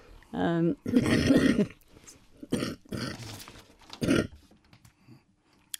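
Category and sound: human body sound, cough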